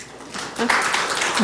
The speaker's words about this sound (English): I love applause.